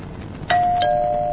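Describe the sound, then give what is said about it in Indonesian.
An electronic doorbell of a house chimes twice in quick succession late at night, two bright tones ringing out clearly and sustaining over a faint low background hum, with no voices present. “suara bel itu berbunyi lagi.”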